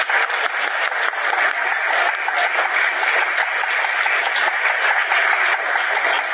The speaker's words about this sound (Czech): Prosím, potlesk pro herce, byli úžasní.